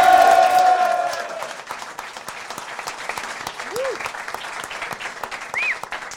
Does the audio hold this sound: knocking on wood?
no